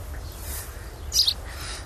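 A baby sparrow gives a short, high chirp near the middle, fairly clear over a low, steady background rumble, with faint twittering around it.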